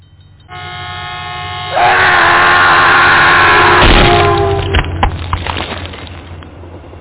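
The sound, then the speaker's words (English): A loud, sustained train horn blares with steady harmonic tones, swelling as the train's rumble and clatter build, then the horn cuts off and rattling wheels continue fading out. “With that said, I'm going to let that simmer on you for a moment, and we're going to hit the train whistle.”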